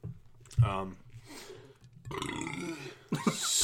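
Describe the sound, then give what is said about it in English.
A deep, drawn-out burp, low and gravelly, rolling through several loud surges over about three seconds, with a croaky, growling tone. “That was a deep burp.”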